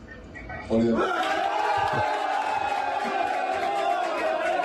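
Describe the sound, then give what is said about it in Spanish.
A crowd of Parlascuela football fans, waiting to learn their cup opponent, suddenly erupts into loud, sustained shouting and cheering after a brief quieter moment, the roar holding steady with overlapping voices throughout. “Gritan, pero no saben quién, porque luego se han enterado posteriormente.”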